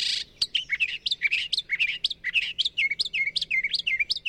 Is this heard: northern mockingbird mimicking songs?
yes